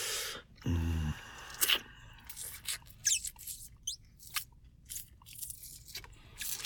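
Soft biting sounds on skin: a scattered series of quick, moist mouth clicks and nibbles, with a brief muffled low hum near the start and no clear speech.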